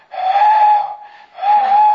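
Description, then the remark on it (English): A loud train whistle blows twice in steady, sustained blasts with a brief dip between them, its tone breathy and harmonically rich, sounded as a warning to pedestrians and cars, with no voices. “The train whistles, 2 longs and 1 short, and 1 long, a warning to pedestrians in cars.”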